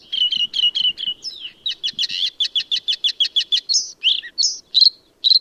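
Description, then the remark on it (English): A bluethroat sings alone in a long song: rapid runs of repeated high notes form a steady trill, then give way to varied buzzy and ringing phrases with short gaps between them. “One of the most remarkable singers on the continent is the blue throat. Its long song meanders in trills, buzzes, and bell-like notes.”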